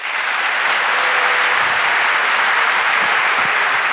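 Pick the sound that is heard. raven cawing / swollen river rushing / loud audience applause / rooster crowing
loud audience applause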